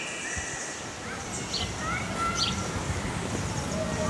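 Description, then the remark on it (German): Outdoor ambience at Zürich Zoo in Switzerland with a steady background hum and scattered faint bird chirps and whistles, with indistinct murmuring of people. “Ich bin im Zoo Zürich unterwegs.”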